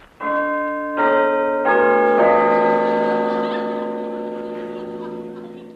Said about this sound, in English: Pull the bell handle.